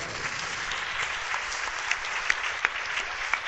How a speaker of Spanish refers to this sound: Yo creo que se merece un aplauso más fuerte.